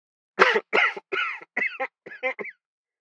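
A man coughs in a quick series of about six or seven harsh bursts, each slightly weaker than the last, with no talking around them.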